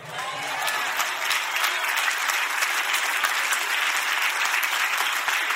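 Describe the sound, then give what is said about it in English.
A large church crowd bursts into sustained, dense applause with scattered cheers and shouts mixed in, steady and loud for several seconds without a break. “Come on, this is supposed to be my rainy day crowd that knows how to shout over a good point.”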